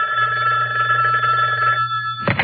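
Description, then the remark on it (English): A telephone rings over a line on a wiretapped call made from the phone outside the chapel in the Vancouver Remand Center, a steady electronic trill with a low hum beneath it, clear for about two seconds before cutting off into a brief click. “He made a wiretap call ostensibly from the phone outside the chapel in the Vancouver Remand Center.”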